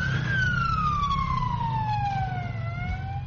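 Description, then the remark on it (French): The siren of an ambulance built from cheap, easy-to-find materials wails loud, its tone gliding slowly downward in one long sweep over a steady low engine rumble, with no voices. “Tout comme l'ambulance classique, elle a une sirène, un petit lit.”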